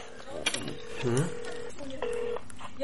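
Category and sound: signal or alarm, telephone keypad dialing tones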